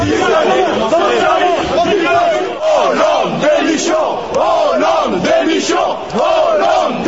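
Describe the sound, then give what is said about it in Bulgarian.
A loud crowd of protesters boos and chants slogans against President Hollande, such as "Hollande, resign", in rhythmic, shouted unison, with jeering and booing mixed in, the massed voices filling the space continuously. “Освен освиркванията, протестиращите скандираха и лозунги като Оланд, никой не желае твоите закони и Оланд оставка.”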